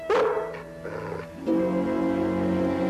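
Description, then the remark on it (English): A dog yips sharply and barks, the first yelp loudest, then trails into drawn-out, whining cries that carry on for a couple of seconds with no voices. “That dog, we'd never catch it.”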